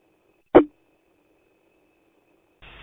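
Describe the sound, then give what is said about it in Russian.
A Volgograd radio repeater keys up on interference: a sharp squelch click, a low faint hum, then a burst of steady hissing static near the end. No one speaks. “Да, волгоградский репитер срабатывает. Видно, на какую-то помеху открывается.”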